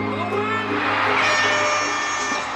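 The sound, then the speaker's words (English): An air horn, fired by a man through his facial expression, blares in one continuous blast for a couple of seconds, harsh and brassy at a steady volume, with a noisy, crowd-like wash mixed in. “He just fired an air horn with his expression.”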